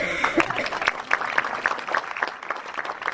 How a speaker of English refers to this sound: Thank you very much. Just give him an applause.